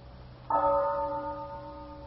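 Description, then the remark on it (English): A clock bell strikes at twelve o'clock, a single clear resonant chime that rings on with a long, slowly fading hum over a quiet, faintly noisy background. “It's 12 o'clock all over again, isn't it, Joe?”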